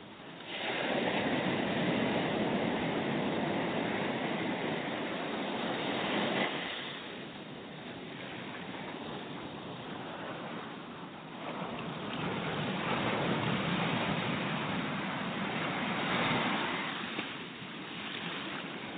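ocean waves

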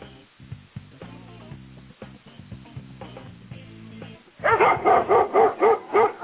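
dog barking

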